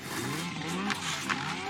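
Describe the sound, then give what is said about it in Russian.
A snowmobile's small engine drones steadily as Misha the bear rides it, its pitch sliding and rising as it revs, with a couple of brief hissing swishes partway through. “Они скачут мимо дома медведя, Миша катается на снегоходе.”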